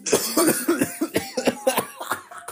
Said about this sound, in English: just put up his finger and then started coughing.